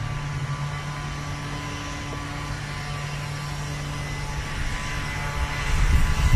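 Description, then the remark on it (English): A leaf blower runs steadily, positioned on the listener's right in the stereo field, a constant droning motor whine with a low humming tone and airy rush, swelling slightly louder toward the end. No one speaks. “The leaf blower should now be on your right.”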